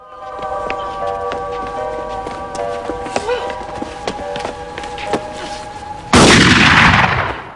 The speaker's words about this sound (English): A gunshot rips through Jay's chest and he falls to the ground. Gil draws his gun and shoots Jackie, who is firing from down the street.